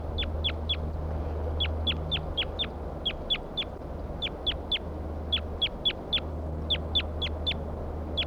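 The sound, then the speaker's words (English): A bird calls loudly and repeatedly, sharp high-pitched notes delivered in quick bursts of four or five with short pauses between, over a low steady rumble. “Start recording the bird again. Still calling loud.”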